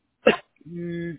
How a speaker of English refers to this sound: Bless you, by the way.